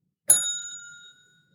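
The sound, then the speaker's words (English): A single bright bell ding rings out sharply, its clear metallic tone sustaining and slowly fading over about a second, heard alone with no talking. “Drum roll. I don't have a drum. Bell, please.”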